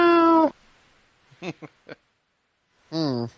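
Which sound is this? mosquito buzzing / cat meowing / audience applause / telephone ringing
cat meowing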